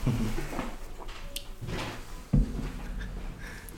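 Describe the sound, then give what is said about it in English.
A door is opened with a soft rustle and creak, then a solid thump partway through as it swings or knocks against something, followed by faint room noise. “You gotta put a lock on the door.”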